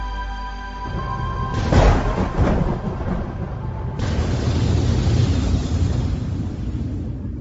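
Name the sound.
thunder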